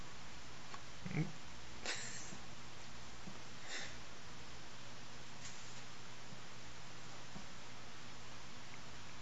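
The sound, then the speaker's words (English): Guard dogs in a video game, set loose after an alarm was left on, make a few short, scattered yips and snorts over a steady hiss of background noise, fairly faint and with no one talking. “Oh, he left the alarm on. Counterproductive. Now the guard dogs.”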